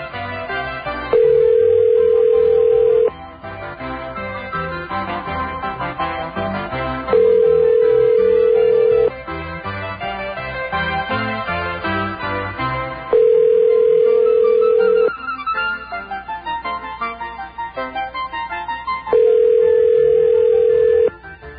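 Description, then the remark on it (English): A phone call to a supermarket rings four times unanswered, steady electronic ring tones of about two seconds each at regular intervals, heard over continuous background music with no one picking up. “Those are the people that refuse to answer the phone.”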